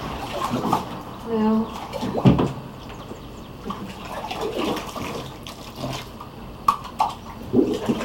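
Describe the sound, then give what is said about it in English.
Water splashes and pours in a swimming pool as water is put into a stocking floating in it, in uneven bursts of sloshing and dribbling, while voices talk and call out now and then over it. “And then do you think you can put water in it while it's in the swimming pool?”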